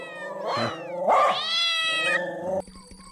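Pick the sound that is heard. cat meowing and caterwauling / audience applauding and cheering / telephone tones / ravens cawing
cat meowing and caterwauling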